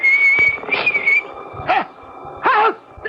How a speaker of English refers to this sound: He's coming now, whistling in the dark. And I can't say I blame him.